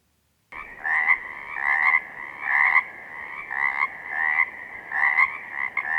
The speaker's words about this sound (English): And a much more ubiquitous presence were the Pacific chorus frogs. When spring started, we would hear these giving out their mating calls every night.